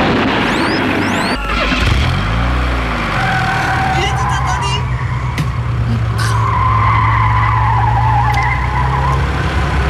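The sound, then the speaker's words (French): A yellow Lamborghini Murcielago sports car, about 2 metres wide, roars, its engine droning and revving while tires squeal in sharp bursts, loud and continuous over ten seconds with no one speaking. “Nous allons prendre la Lamborghini Murcielago.”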